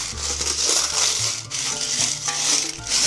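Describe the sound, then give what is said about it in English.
A jar packed with coins from many countries rattles and clinks as it is lifted and handled, a steady, dense jangling of metal with a scraping, crunchy texture and a low hum underneath. “And it's packed with global coins, coinage, shrapnel, as most expats would call it.”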